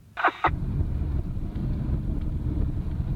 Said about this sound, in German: Sie ist jetzt gerade in den Wagen gestiegen und macht sich auf den Weg ins Fitnessstudio.